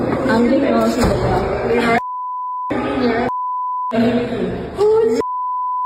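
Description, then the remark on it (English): Speech is repeatedly cut by loud, steady censor bleeps covering the N-word, three flat tones replacing words, each lasting about half a second to a second, alternating with bursts of talking. “All the beeps that you're hearing is the N-word, by the way.”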